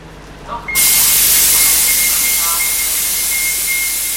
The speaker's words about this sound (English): The 37 bus pulls into the Lawrence Transportation Depot